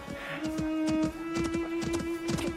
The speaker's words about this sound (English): Oh, you poor man! Are you all right? Did he tread on you? He's only a baby donkey. He kicked me! And he's knocked against the microphone.